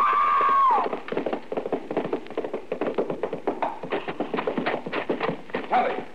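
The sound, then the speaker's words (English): A horse gallops while racing, in a rapid, uneven clatter of hoofbeats that tumbles and scrambles as it stumbles over a lower bar and throws its rider, after a sharp high-pitched cry at the start. The hoofbeats are loud. “We were racing. The horse stumbled over that lower bar and threw her.”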